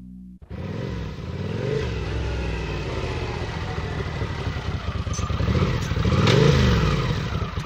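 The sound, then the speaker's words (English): A motorcycle engine starts abruptly and runs loud, revving up and down with rising and falling pitch sweeps as it pulls up outside Horatio Salazar's house at about 7:30 in the evening, its rumble steady throughout with no voices. “On that same Monday in May, at approximately 7:30 in the evening, there came the sound of a motorcycle pulling up outside Horatio Salazar's house.”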